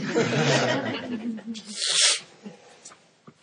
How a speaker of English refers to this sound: I'm going to sneeze anytime now.